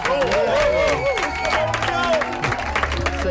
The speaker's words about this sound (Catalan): El del millor croissant de tot l'estat. I ha guanyat l'Oriol Balaguer. Un aplaudiment.